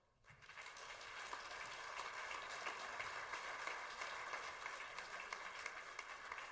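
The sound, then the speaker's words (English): A crowd breaks into steady applause for a speaker after a brief quiet start, many hands clapping in a dense, continuous patter that holds evenly throughout. “And then, most importantly, for the next 30 seconds or so, give a warm round of applause”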